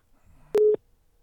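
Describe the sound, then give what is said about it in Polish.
A single short, loud electronic blare from a street noise jammer outside the Russian embassy cuts in for about a fifth of a second, a harsh steady tone with a buzzy edge, over a faint background hum. “Przepraszam, te szumidła przy ambasadzie rosyjskiej są nieprawdopodobne.”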